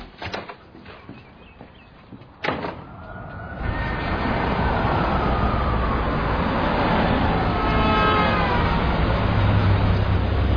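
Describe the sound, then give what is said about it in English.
A car drives through traffic to the downtown library: after a few quiet seconds and a couple of brief knocks, loud steady road noise swells and holds, with wavering engine tones rising and falling over it. “I'll drive you there, buddy.”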